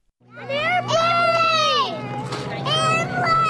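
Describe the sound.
A crowd of schoolchildren shout and chatter excitedly, their high overlapping voices rising and falling over the steady low engine hum of a small plane, brightly painted with humpback whales, as it taxis to a stop before them.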